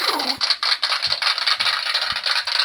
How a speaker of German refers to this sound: Genug geklatscht. Es hört nicht auf, jetzt hört's auf.